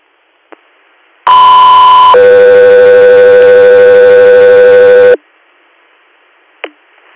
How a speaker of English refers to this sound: Air, stand by for tones.